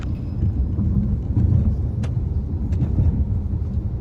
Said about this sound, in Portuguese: Esse trecho aqui depois de Iracimia tá praticamente intransitável aí. O caminhão quase para na pista para poder passar dos buracos.